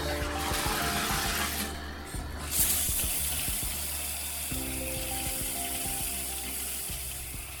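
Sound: shower running water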